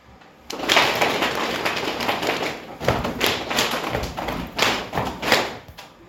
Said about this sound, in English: Just then, the hunters came out of the woods, following the wolf's trail and shooting as they went.